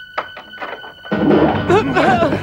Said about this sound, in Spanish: Es uno de los espías que entra y da un puñetazo al capitán.